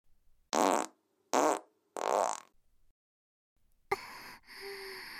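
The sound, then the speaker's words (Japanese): Three short, airy farts in quick succession, loud, released under a skirt, followed after a pause by a different sustained rustling noise. “スカートの中、どんどんおなら臭が濃くなっていくよね。”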